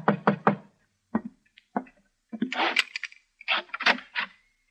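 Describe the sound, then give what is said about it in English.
Three quick, solid knocks rap on the wooden alley door of an office, followed by a couple of lighter taps and then a stretch of rattling, scraping handling noise. “I just sat down in my office with a sandwich and a cup of coffee when there was a knock on the alley door.”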